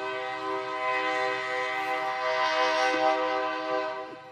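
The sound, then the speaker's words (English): A train horn blares during a church sermon in a long, steady chord with strong stacked harmonics, sustained and loud throughout, with faint rumble beneath as the train passes. “I was optimistic when the train passed by earlier. I was like, probably won't happen during the sermon, but here we are.”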